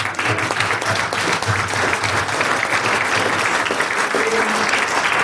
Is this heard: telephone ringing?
no